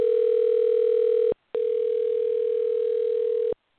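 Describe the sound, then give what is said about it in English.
A phone's ringback tone on an outgoing call: a steady, mid-pitched electronic tone, loud and alone, sounding for about a second, pausing briefly, then sounding again for two seconds before stopping. “Let's go ahead and see if she answers her phone now.”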